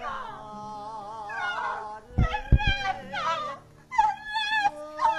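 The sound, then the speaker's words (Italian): Someone wails and sobs loudly, long wavering cries rising and falling, broken midway by a few sharp, choked sobs before the wailing resumes. “Neanche Sofia Loren nella ciociara piangeva così.”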